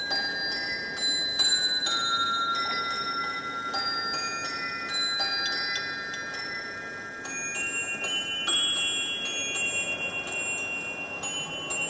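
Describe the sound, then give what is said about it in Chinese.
An antique musical clock made in 1589 by Swiss-born clockmaker Isaac Habrecht chimes a hymn tune composed by Martin Luther in 1545: bright, bell-like notes struck one after another at a steady pace, each ringing on and overlapping the next. Clear, with no voices. “而这一首曲子呢也为我们记录了那个时代的变迁，所以我们先来听听这个1589年的钟情时钟它所发出来的声音吧。”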